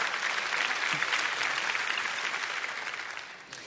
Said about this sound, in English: How awesome is he? I think that's worth a clap. Go ahead.